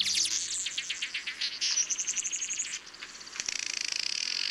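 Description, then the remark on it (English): A busy chorus of weaver bird calls: rapid, high-pitched chattering and buzzy chirps overlapping in quick rhythmic bursts, fairly loud and continuous, with no voices. “Males of many weaver bird species construct a series of intricately woven nests with which to lure a prospective partner.”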